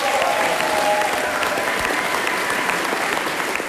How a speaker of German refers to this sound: Doch genau in diesem Moment beginnen Schüler und Lehrer laut zu jubeln.